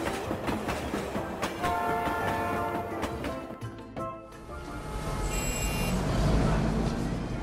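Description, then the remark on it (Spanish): A train rumbles and clatters steadily along the rails, with a sustained, steady horn tone sounding over the noise for a couple of seconds before the rolling rumble swells again. “Por la tarde fueron en autobús y en tren al centro de la ciudad.”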